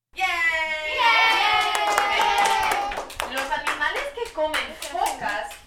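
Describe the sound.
A group of fifth-grade students at International Prep Academy in Champaign cheers each other on with loud, high-pitched shouts during a Spanish grammar activity, then breaks into quick, uneven clapping mixed with excited young voices that rise and fall.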